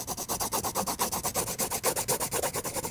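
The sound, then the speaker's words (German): A pencil scratches rapidly back and forth across paper, its graphite lead rubbing onto the paper layer by layer, in a steady, even rhythm of many short, dry, hissing strokes, fairly soft and with no voices. “Ein paar Striche mit dem Bleistift. Das Graphit aus der Mine reibt sich aufs Papier, Schicht für Schicht.”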